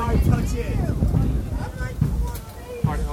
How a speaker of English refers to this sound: God, I didn't think it was gonna be this windy out here. Fucking shit. Yeah, I got dust all blowing in my eyes.